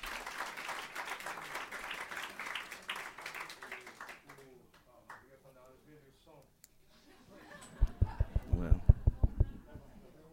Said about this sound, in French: Je vous demande une main d'applaudissement.